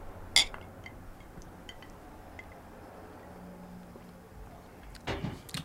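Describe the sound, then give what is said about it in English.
Two glasses of Old Fashioned cocktail clink together once in a toast, a bright ring near the start. Silence follows, then a few soft knocks and rustles near the end. “let's do a little cheers here. Cheers.”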